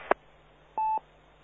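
A short click, then a single brief electronic tone like one telephone keypad beep, steady and moderately loud over faint background hiss. No one speaks.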